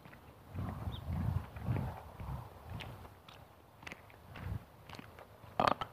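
belch

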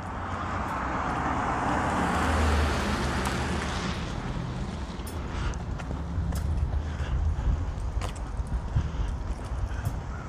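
pickup truck driving past

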